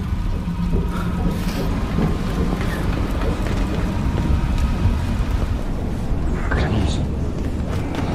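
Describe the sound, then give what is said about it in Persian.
A loud, steady roar of a thunderstorm at sea around a ship: driving rain and wind with deep low rumbling throughout, a few sharper gusts and splashes, and indistinct voices half-buried in the noise. “برو ساکانو دست بگیر، بگیر طرف طوفان، برو تو دلش، از اون برش درا.”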